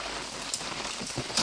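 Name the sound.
rain falling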